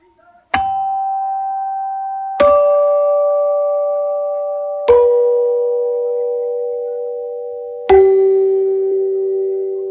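Four chrome-plated chime bells are struck one after another at slow, uneven intervals, each stepping lower in pitch and ringing on with a long, sustained decay. The tones are clear, with no talking.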